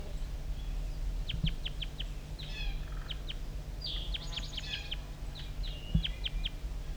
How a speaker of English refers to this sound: Start recording the wild bird still around here calling over near the bottom of the hollow.